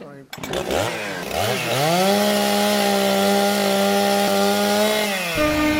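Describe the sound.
A person imitates a chainsaw with their voice during a chainsaw, train and harp game, revving up with a few rising bursts, then holding a loud, steady buzzing drone for several seconds before cutting off.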